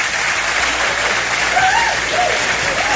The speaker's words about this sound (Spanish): Y os pido un aplauso, daros las gracias a todos los que habéis venido y os pido un fuerte aplauso a todos los que habéis estado aquí.